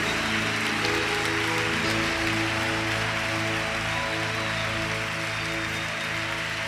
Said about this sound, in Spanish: Aplauso para Jesús. Él es el Rey de Reyes. Él es el Señor de Señores. Fuerte un aplauso para Jesucristo. Él se lo merece. Fuerte para él.